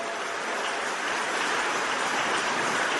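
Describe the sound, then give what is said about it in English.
Sustained applause from a large crowd fills the space, a dense, steady wash of many hands clapping at once with no pauses and no voices standing out. “They are coming, keep clapping.”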